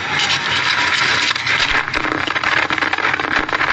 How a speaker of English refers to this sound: Now he's going to pull the mic and try to turn it off. Now he's turning it off. Here's the rustling.